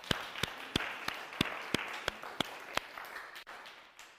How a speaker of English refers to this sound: These are people who make the small behind-the-scenes difference to keep this church being a clean and safe place for us to be. Please can we give them a big thank you clap.